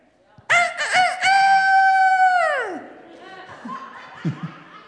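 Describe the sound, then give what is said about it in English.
A person imitates a rooster crowing: one loud, drawn-out cock-a-doodle-doo that holds steady and then drops away, followed by a few soft, scattered clucking noises. “That was a rooster. I can do a chicken too.”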